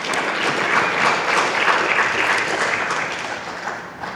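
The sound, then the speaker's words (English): A crowd at a worship gathering claps steadily for about four seconds, a dense, even wash of many hands that stays loud throughout before tapering slightly at the end. No one speaks over it. “Can we give Teal a round of applause?”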